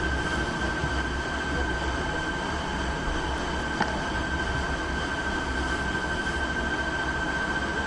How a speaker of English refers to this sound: Oh wow, I can actually hear, do you hear the engine outside? Oh wow, this plane is cool.